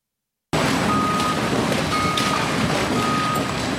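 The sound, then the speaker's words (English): Dozens of heavy garbage trucks drive in and out outside the Monticello Transfer Station landfill on Landfill Drive off Broadway, Sullivan County, New York, rumbling with a steady engine roar, while a reversing alarm beeps in short, regular tones over the noise. “Outside the Monticello Transfer Station, dozens of trucks drive in and out of Landfill Drive just off Broadway.”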